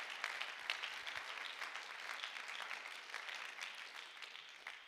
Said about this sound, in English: Clap your hands for a moment if you're thankful for the church. Hallelujah.